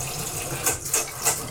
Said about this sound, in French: Donc, comme je le disais, vous avez une petite tige, voilà, qu'on va tourner pour faire remonter le flotteur. Et voilà, vous entendez que la chasse d'eau se remet.